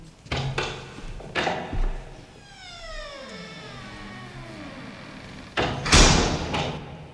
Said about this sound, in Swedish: Jag går väl in genom den här dörren då. Den här sjukt fula teaterfula dörren.